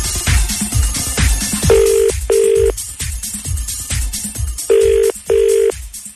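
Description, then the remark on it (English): An outgoing call's ringback tone on the radio show Freshly Squeezed, ringing a competition winner drawn from the qualifiers, sounds twice in a double-burst pattern, each steady pair of tones clear and fairly loud over a rhythmic music bed, with no one speaking. “We are going to ring it right now and make someone ridiculously happy. It's ringing now.”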